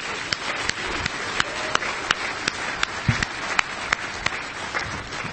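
A crowd breaks into steady, sustained applause, a dense wash of clapping with sharper individual claps popping out at regular intervals, continuing throughout without anyone speaking.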